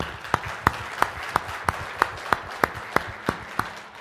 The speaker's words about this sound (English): All of you did a fantastic job, and it was a pleasure to work with you. I'd like to ask for a round of applause for the program committee.